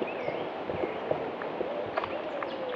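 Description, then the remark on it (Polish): Soft, low woodpigeon cooing sits faintly beneath a blackcap's brighter whistling and scratchy warbling, the bird phrases coming in short bursts over a steady outdoor hiss. “Grzywacz słabo słyszalny na tle pogwizdującej i trzeszczącej kapturki.”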